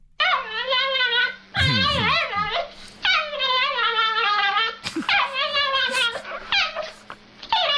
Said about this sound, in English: Trick question, it's a dog. It's a dog, everybody.